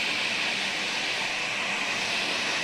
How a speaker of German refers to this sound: Mit Hochdruck rauschen die Wassermassen durch 3 Betontunnel, in die der uralte Fluss umgeleitet worden ist.